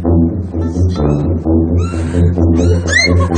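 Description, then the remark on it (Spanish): A cat yowls in distress, a loud, drawn-out wailing cry that rises and falls in pitch without pause for several seconds, alone with no talking. “Pero eso es un gato atropellado, ¿no?”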